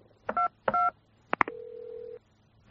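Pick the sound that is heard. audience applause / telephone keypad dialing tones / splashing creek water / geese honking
telephone keypad dialing tones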